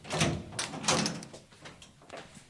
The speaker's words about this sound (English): So I'll just unlock the door.